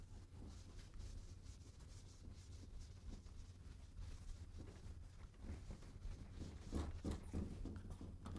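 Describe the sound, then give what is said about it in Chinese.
Soft, scratchy rubbing strokes of a board eraser wiping writing off a board, repeated in quick back-and-forth bursts for several seconds, fairly faint with a low hum underneath and no talking. “福行等咧，呢个擦咗佢啦。”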